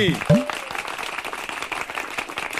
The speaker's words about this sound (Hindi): चलो सब लोग बजाओ ताली।